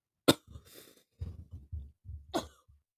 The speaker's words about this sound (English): Sorry, I had to cough.